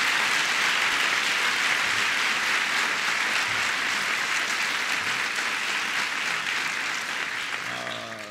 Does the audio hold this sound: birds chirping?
no